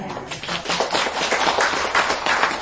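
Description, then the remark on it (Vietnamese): An audience applauds steadily after being offered a poem by the speaker, many overlapping claps forming a dense, bright patter that stays fairly loud and even for the whole few seconds, with no voices. “Trời ơi, biết bài thơ gì vỗ tay rung rớp rồi hơi nó nghe nó hay bắt đầu hối hận.”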